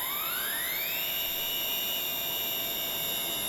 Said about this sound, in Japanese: 戦闘艇7号、8号、9号、エンジン始動。 了解。7号エンジン始動。